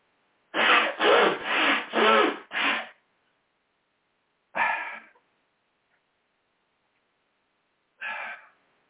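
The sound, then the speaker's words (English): Someone blows their nose in a quick run of five loud, rasping honks, then pauses and gives two more single blasts a few seconds apart. There is no talking. “I'm going to blow my nose, which won't help the meditative state.”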